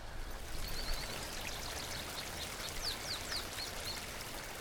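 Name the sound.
flowing creek water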